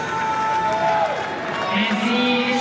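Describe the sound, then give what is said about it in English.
A tennis crowd makes a loud, sustained roar, with drawn-out booing voices rising above the general din toward the end, during a match between Novak and Francisco Cerundolo after something distracted Novak. “It's one of those moments where you don't know if the crowd are booing the person who may have distracted him, booing Novak, booing everything.”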